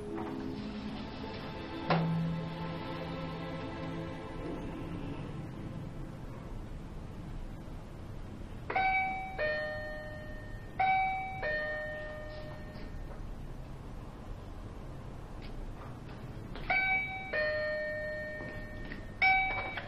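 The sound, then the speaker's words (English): A doorbell chimes again and again in bright two-tone bursts, ringing in clusters several times over with short pauses between, clear above a low background hum. “You, Mum, I've been ringing the doorbell for 2 hours.”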